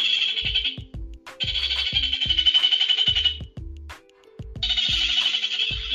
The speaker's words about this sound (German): Jetzt habe ich unsere Ziegensittig ganz aufgeregt gemacht. Tut mir leid, ihr beiden.